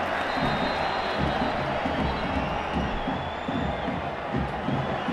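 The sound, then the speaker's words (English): A large stadium crowd at a football match involving Barcelona roars and cheers continuously while getting soaked by rain, a dense, loud wash of voices with rhythmic swells of chanting and clapping underneath. “And the crowd are really responding to that, despite the fact they're getting a proper old soaking.”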